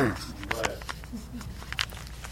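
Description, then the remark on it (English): A single sharp sneeze bursts out early on, a short breathy blast that rises over quieter murmuring voices and a few soft clicks that continue afterward. “Bless you.”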